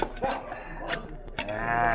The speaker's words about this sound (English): hear them get on their horses and ride away very fast. So we lost that chance to arrest them.